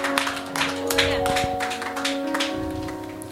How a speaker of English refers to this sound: Put your hands together for Jesus. Let's rise to our feet. Give Him praise, somebody. Is that clapping for Jesus? Oh, put your hands together for the Lord.